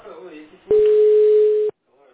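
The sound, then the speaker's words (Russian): A single steady telephone ringback tone sounds for about a second while someone is being called again, loud and even in pitch, after some brief speech, then cuts off abruptly before a faint voice resumes. “Я еще пару раз позвоню ему.”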